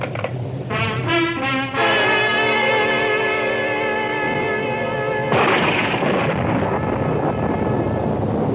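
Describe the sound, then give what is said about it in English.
Heavy rain and rumbling thunder from a storm, with rain flooding the streets, heard from inside a cab; a loud sustained ringing tone over the first half before a dense, steady roar of downpour takes over. No voices. “I got in and told him and sat back, listening to the storm and looking out at the flood of rain on the streets.”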